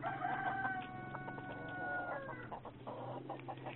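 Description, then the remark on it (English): A chicken held to a telephone clucks steadily over the thin phone line, starting with a drawn-out warbling call and breaking into shorter, choppy clucks, fairly loud with no talking. “I will put chicken on the phone.”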